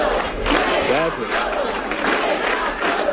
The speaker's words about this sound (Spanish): en la sala se forma cierto revuelo, se expulsó a esta mujer y el resto de asistentes empiezan a corear otro grito, le dicen a Sánchez que no está solo.